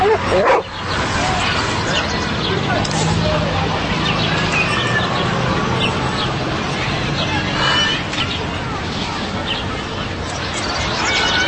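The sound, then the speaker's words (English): A dog barks and yips excitedly and loudly, its barking running steadily through a busy, noisy background for the whole stretch with little pause. “Look at the cute dog.”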